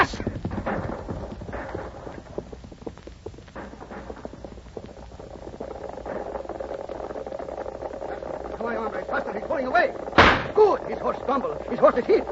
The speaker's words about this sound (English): Going on. The horse is still running. Yeah, but slower.